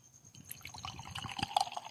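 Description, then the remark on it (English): A beer donated by Garage Boys, kept in the fridge for a couple of weeks, is opened and poured: a quick crack followed by a steady, bubbly gurgle and splash of liquid that grows a little louder toward the end. No voices. “But before that, whoa, got a new beer.”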